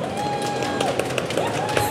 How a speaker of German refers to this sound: Darf ich, ist das unverständlich, wenn ich einmal einen kleinen Applaus höre?